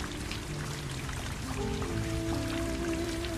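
Steady rain patters continuously outside, a dense, even hiss of drops, with faint sustained musical tones drifting underneath.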